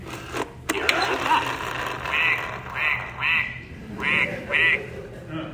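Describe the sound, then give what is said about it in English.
A pull-string talking toy, its arrow pointed at the duck and its cord pulled, plays a recorded duck quack several times in a row, tinny and mechanical-sounding, with short bursts repeating in a steady rhythm after a brief click and whir. “Point it to the duck.”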